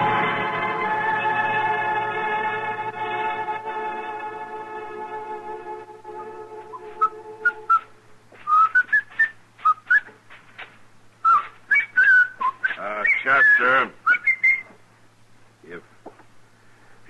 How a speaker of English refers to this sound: Whistling, would you mind doing it outside?